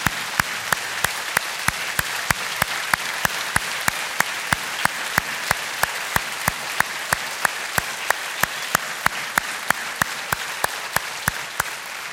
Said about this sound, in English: Come on, can we clap our hands for one of the most relentless men I've ever met?